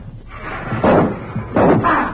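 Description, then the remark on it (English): A heavy elm tree limb crashes down, giving two loud, thudding impacts about a second apart, each with a brief woody rumble and no voices. “Elms have a dangerous habit of shedding limbs in still weather, particularly after a storm.”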